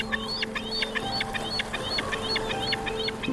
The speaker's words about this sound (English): You're hearing kind of the chittering of bald eagles, kind of the screaming and the screeching of gulls.